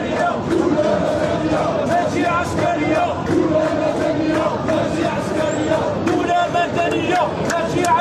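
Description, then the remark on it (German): A large crowd with banners chants slogans in unison as its march passes the main post office in the city centre, many voices shouting steadily and loudly with a dense, continuous roar and rhythmic bursts throughout. “Eine nicht enden wollende Schlange zieht bei der großen Post im Stadtzentrum an uns vorbei. Mit Sprechchören und Bannern.”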